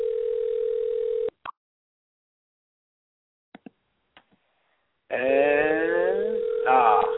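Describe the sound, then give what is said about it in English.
A steady, buzzing telephone line tone, heard while a call is placed to Mike Bennett, hums for about a second and cuts off, followed by a few soft clicks in silence, then the tone returns loudly with a voice talking over it. “while we're waiting for this phone call”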